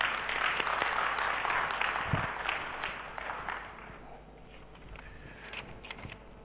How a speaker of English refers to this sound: Before I read your testimony, let's give you a round of applause.